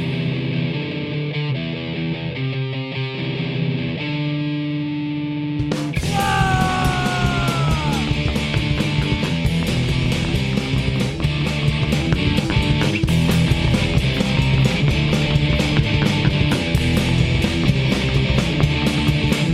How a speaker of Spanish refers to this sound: han sacado una demo en el 2020 que se llama …. Son cuatro canciones y vamos a escuchar una de ellas